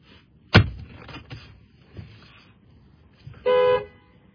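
A car horn gives one short, loud honk near the end, sounded to keep a dog out of the trash, after a sharp thud and a few faint knocks earlier, with no one speaking.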